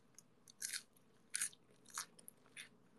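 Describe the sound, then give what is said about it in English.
Crisp, crunchy chewing of a whole raw lettuce during a lettuce-eating ASMR endurance stream: four bright, wet crunches in a steady rhythm, each a short burst of crackly high-pitched snapping, with quieter mouth sounds between and no talking. “Sometimes lettuce is, it does taste bitter.”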